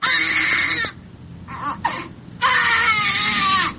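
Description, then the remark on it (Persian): Newborn babies, born addicted because their mothers used drugs during pregnancy, crying loudly: two long high-pitched wails separated by a brief pause with a short whimper and a sharp catch of breath between them. “اینها اطفال هستند که مادرانشان در هنگام حاملگی از مواد مخدر استفاده میکردند و این نوزادان نیز معتاد به دنیا آمدند.”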